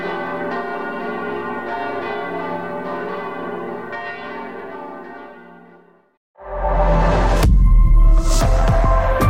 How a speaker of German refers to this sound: wenn an jedem 13. Februar abends um 9:45 die Kirchenglocken von Dresden läuten. 20 Minuten lang, genauso lange, wie der Angriff dauerte. Die Kreuzkirche, die Frauenkirche, die Kathedrale. Alle. Alle Kirchenglocken der ganzen Stadt läuten auf einmal.